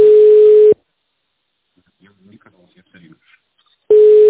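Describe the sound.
A loud, steady telephone tone sounds at the start and returns about three seconds later, with faint, muffled voices murmuring in the gap between the two beeps.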